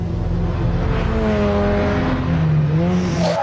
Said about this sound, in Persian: ترافیک این شهرام که دیوونه کننده. اینطوری نمیرسم.